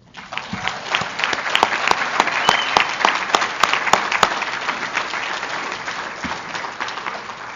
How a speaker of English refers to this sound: And I would like to end this talk by giving honor and glory to the one who brought us all together and changed our lives. Would you join me in a round of applause for God?